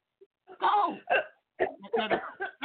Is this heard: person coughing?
yes